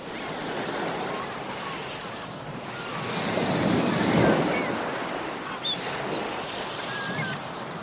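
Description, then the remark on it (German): Ocean waves wash steadily onto a white sandy beach by a turquoise sea on a warm summer day, a broad continuous roar that swells to a louder break midway before easing back, with faint high calls drifting over the surf. “Fantasiereise ans Meer mit progressiver Muskelentspannung”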